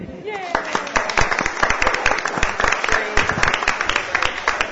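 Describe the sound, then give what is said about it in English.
An audience at a University of Virginia reunion discussion breaks into steady applause for spouses and significant others who did not attend the university, many hands clapping in a dense, crackling patter that holds loud for several seconds, with a few voices calling out near the start. “See, I'd like to applaud that.”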